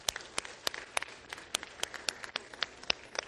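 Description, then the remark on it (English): A round of applause from a group, many sharp claps overlapping into a steady, bright patter with irregular louder hand strikes, no voices heard. “Let's give them a round of applause, huh?”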